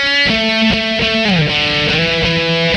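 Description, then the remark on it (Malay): A loud, distorted electric guitar, played by a young man, plays alone, holding sustained notes with a few quick changes and a sliding pitch bend midway through. “Amin seorang anak muda yang ada banyak kebolehan. Macam goreng gitar.”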